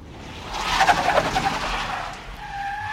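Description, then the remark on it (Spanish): A car pulls up at a house with a loud, drawn-out screech of skidding tires, the squeal peaking early and then fading into a steady engine hum, with no voices. “El coche llega a casa de Alfonso.”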